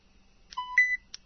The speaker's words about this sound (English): In this case, I was using the rewind button. So I pressed in and held in the rewind button until I heard a signifying beep, and we'll hear that again.